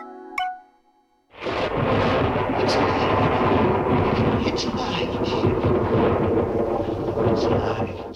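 thunder

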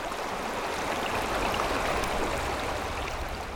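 flowing river water

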